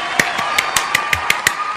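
A run of about eight sharp claps at a steady, quick pace, each a crisp burst, over a constant tonal background hum; no one speaks.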